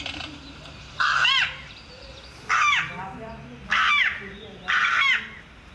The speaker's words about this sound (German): Auf seinem Smartphone spielt Karl Rusche mir den kratzbürstigen Gesang der Saatkrähe vor. Krähen gehören zur Ordnung der Singvögel. Sie singen eben auf ihre Art.